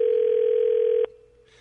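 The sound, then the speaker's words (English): A steady electronic telephone ring tone sounds loud and clear for about a second, then cuts off abruptly, leaving only a faint low hum as the line waits to be answered. “Takes him a while to get to the phone, obviously.”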